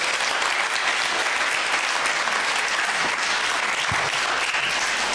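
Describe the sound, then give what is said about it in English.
A church crowd claps steadily, a dense wash of many hands applauding at an even, loud level for several seconds with no voices breaking through. “Great, big round of applause.”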